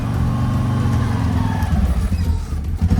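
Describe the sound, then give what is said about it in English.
A car drives along with a loud, steady low engine drone, its rumble wavering slightly toward the end, with no voices over it. “I'm driving too fast.”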